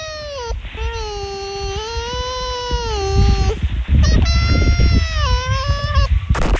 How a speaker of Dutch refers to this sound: Of is dit antwoord B, een vos die aan het gapen is? Antwoord B. Dat is helemaal goed!